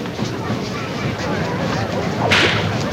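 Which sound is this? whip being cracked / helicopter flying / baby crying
whip being cracked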